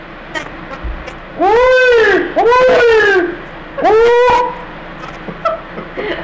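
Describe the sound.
A man's voice belts out three loud, drawn-out hog calls, each swooping up and then down in pitch, with short pauses between them and quiet background otherwise.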